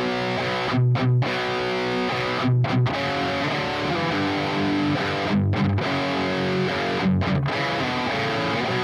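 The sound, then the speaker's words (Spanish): A dry, heavily distorted electric guitar with no reverb plays a palm-muted, chunky rhythm part alone as the backing for a solo, its steady chugging broken by short, sharp pairs of stops that recur every couple of seconds. “O sea, algo que notar es que a mí me gustan así, secos, güey. A mí me caga ponerle reverb a la distorsión.”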